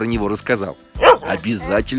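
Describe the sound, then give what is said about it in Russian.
A large German shepherd dog, begging for attention, lets out a loud bark or two between stretches of its owner, a retired man, talking, the barking overlapping his speech. “Это мой пес Алтай просит”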